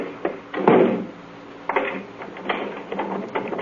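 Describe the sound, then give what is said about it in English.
A door thuds shut, followed by a series of sharp metallic clicks and rattles like a key turning in a lock, with no voices. “Lock the door on your way out.”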